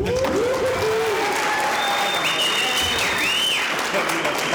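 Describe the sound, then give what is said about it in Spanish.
Sustained applause from a sizable audience as three projects are selected for recognition, dense and steady throughout, with a few whistles and cheers rising above the clapping. “El aplauso del público.”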